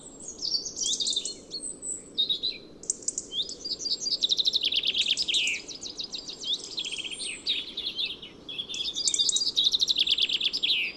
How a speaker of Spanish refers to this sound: A continuación, y un poco más abajo, los trinos sonoros y metálicos de un petirrojo y de tres pinzones vulgares se entremezclan formando una pequeña algarabía poco frecuente en el rocigalgo.